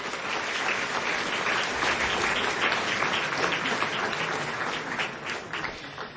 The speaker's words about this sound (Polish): Brawa dla promotora.